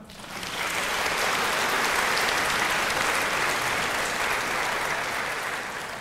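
An audience applauds students of the Warsaw School of Economics (Szkoła Główna Handlowa) at a competition event, a dense, even wash of many hands clapping that swells in quickly and holds at full strength without a break, with no voices heard.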